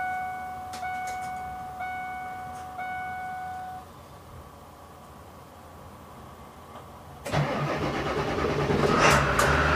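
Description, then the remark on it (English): A vehicle's warning chimes ring steadily with a few clicks, then after a short pause a large ambulance engine at a truck stop cranks and roars to life, settling into a loud, rumbling idle. “Time to get this thing fired up.”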